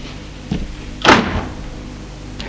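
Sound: bedroom door opening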